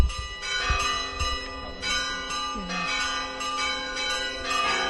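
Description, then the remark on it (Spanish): Church bells in Teruel, Spain, peal continuously at midday as a protest against depopulation, in a dense, overlapping ringing, strikes repeating roughly every half second with a rich ringing tone, fairly loud, with faint background noise beneath. “Así han sonado las campanas este mediodía en Teruel.”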